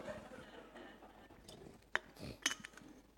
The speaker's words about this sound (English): Let me just drink some water here.